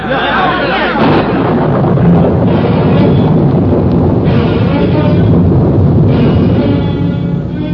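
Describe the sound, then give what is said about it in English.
A loud, dense roar of a great storm breaking over a valley fills the whole stretch, with heavy rumbling and bursts that suggest thunder cracks amid wind and rain pouring down, steady throughout. “As the congregation burst out of the kirk, the storm cut loose.”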